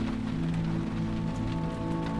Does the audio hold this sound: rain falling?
yes